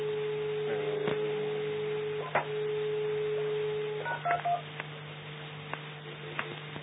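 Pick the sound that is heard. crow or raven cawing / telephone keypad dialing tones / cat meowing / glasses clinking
telephone keypad dialing tones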